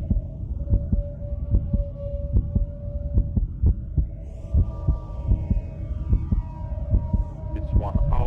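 A human heartbeat thumps in a steady, fairly quick rhythm of deep, muffled pulses, layered over a low humming drone with faint tones that slowly rise and fall.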